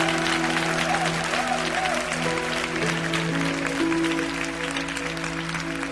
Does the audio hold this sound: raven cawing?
no